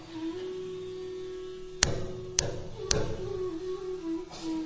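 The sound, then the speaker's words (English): Three loud, sharp knocks on the door of Nanda Maharaj's palace in quick, slightly uneven succession, standing out over a steady humming drone that continues throughout. “He came to the palace of Nanda Maharaj and knocked very loudly on the door.”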